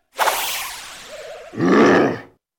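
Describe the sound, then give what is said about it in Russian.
A lion's roar as the enraged lion lunges at the hero, loud: a harsh, breathy rush of noise swells first, then gives way to a deep, rumbling bellow that holds for about a second before cutting off. No one speaks. “Разъяренный лев кинулся на героя, но Геракл успел нанести ему удар палицей.”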